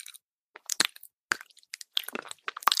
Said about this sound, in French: La seule chose qui m'ennuie, c'est que je ne peux pas encore mâcher ma branche de réglisse du côté droit. C'est encore un peu sensible. Alors je mâche à gauche. Comme ça, regarde.